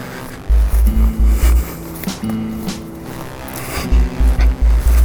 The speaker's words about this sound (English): And his path is freaking scary. Really steep. This is a powerful four-wheel drive truck, and the sheriff drives it aggressively.